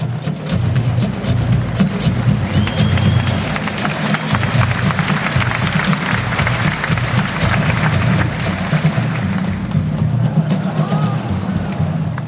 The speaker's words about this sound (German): in der Reihe von Vorstellungen, von Dudelsack bis Militärmusik, ist dann eben die Schweizer Fahnen erschienen, mit dem … aus Basel, eine Trommelgruppe natürlich, und die haben für ihre Vorführung einen Haufen Applaus gesammelt.